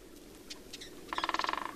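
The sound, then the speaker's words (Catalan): A woodpecker's call: a few scattered chirps, then a fast, even run of a dozen ringing notes in a clear series against a quiet forest background. “Això, ens ha vist el picot, ens ha vist”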